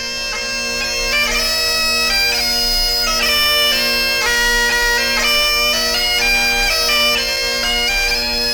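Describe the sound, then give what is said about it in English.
A Scots piper plays bagpipes in a lively tune, a steady low drone holding underneath as the reedy chanter melody shifts from note to note, loud and continuous throughout with no voices. “And a little Scots piper playing his bagpipes.”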